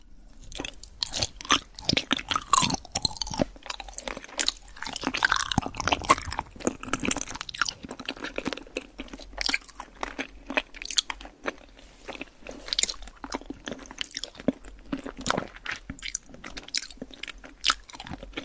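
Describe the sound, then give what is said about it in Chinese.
Wet, crunchy chewing of spicy hotpot food with irregular bursts of bites and squishy mastication, fairly loud and continuous with no talking. “来，我们继续吃火锅。”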